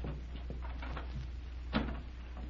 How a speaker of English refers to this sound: Well, here's the third room. Is this Red's? I think so. Open the door and see.